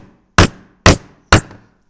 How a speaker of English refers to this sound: When he arrived, the house was in darkness, so he banged on the door.